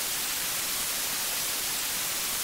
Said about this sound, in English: Just close your eyes and I want you to just listen for just a moment. What you're listening to is static.